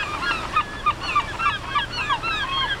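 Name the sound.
herring gull calls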